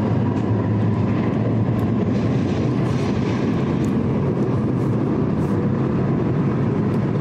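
A Nuremberg U-Bahn subway train runs along the tracks toward Ziegelstein station, a steady, loud low-frequency rumble with continuous rolling noise and faint high squeaks, no voices present.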